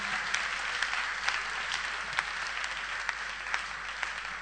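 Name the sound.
audience clapping hands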